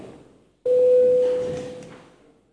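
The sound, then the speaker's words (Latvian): A parliament bell rings before a vote on declaring a corporate income tax bill urgent: one loud electronic tone starting abruptly, holding a steady mid pitch for about a second, then fading away over the next second, with no talking. “Tātad komisija lūdzu noteikt likuma projektu par steidzamu, lūdzu zvanu.”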